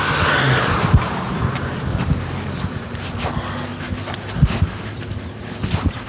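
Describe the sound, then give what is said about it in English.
A loose German Shepherd wearing an orange collar gives a few short, sharp vocal bursts and some whimpering over a steady rumble of a moving vehicle, with no one talking. “That was a German Shepherd that was loose the other day, huh”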